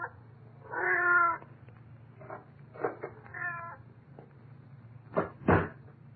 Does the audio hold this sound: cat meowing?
yes